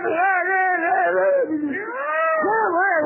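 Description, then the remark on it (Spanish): A voice imitates cats in heat caterwauling, a loud, continuous wavering yowl with rising and falling pitch, sustained for about three seconds, alone. “Claro, los terrenos baldíos, mucha gata en celo, dice, miau, dice, ¿qué pelea?”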